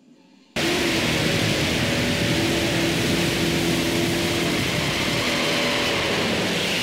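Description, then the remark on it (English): An LS6 muscle car on Firestone tires doing a tire burnout: after a brief quiet start, a loud, steady roar of revving engine and hissing, screeching tires kicks in abruptly and holds without letting up. “This thing does a great burnout.”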